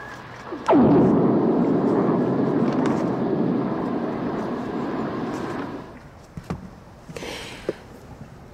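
A lightning strike picked up underwater by a hydrophone in fairly deep water in the Gulf of Mexico: a sudden sharp crack that swells into a loud, broad rumbling roar, fading after several seconds into quiet water noise with a few faint clicks.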